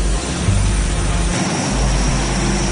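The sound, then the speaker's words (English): An Electra propeller plane's engines roar steadily, a loud continuous drone with a deep low rumble and a broad hiss, holding constant as the aircraft departs across the tarmac. “It can't be easy seeing the Electra off”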